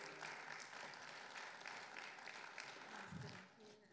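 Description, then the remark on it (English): Steady applause from an audience welcoming a woman up to the stage, a dense, continuous patter of many hands clapping at an even level for the whole stretch, with a brief low thump near the end. “Everybody clap and welcome her up.”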